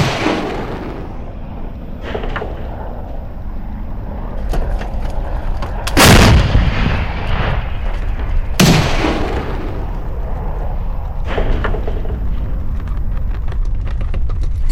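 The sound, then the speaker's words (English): Several explosions boom through a steady low rumble around a village near a military base next to Kyiv, two sharp loud blasts standing out among fainter thuds spaced a few seconds apart, with no talking. “We spent there one night, but unfortunately the explosion started around the village, because it's not far from some kind of a military basis or something.”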